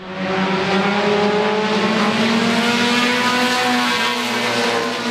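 Loud, steady roar of stock car engines racing around a short 650-metre track in Swansboro, North Carolina, on a Saturday evening, with harmonic engine tones droning and gradually sliding in pitch as cars circle the track, filling the whole stretch without any talking.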